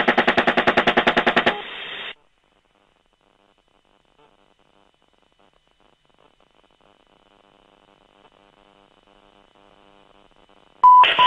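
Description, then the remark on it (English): A rapid burst of automatic gunfire aimed at a disabled van, loud and evenly spaced shots for about a second and a half, then a brief ringing tail and near silence with faint crackling, before a loud electronic tone at the end. “Go ahead, shoot it.”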